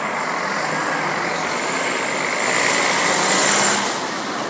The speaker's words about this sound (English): That's a bus, by the way, from Bus Éireann.